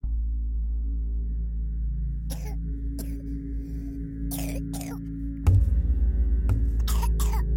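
A three-year-old girl coughs hard in a series of harsh, broken bursts, several in quick succession, at night in a bedroom filled with a white cloud, over a constant low rumble with no talking.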